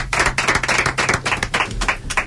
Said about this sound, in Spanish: aplauso, por favor.